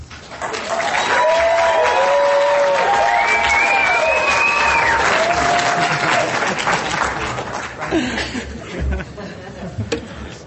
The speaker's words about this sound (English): Thank you for the Roanoke, Virginia cheer. I appreciate it.